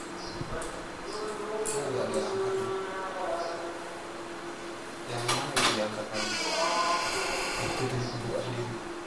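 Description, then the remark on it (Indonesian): A door is opened with a couple of sharp clunks and a rattling slide in the middle, amid steady mechanical noise and some voices. “Pintunya kamu buka sendiri.”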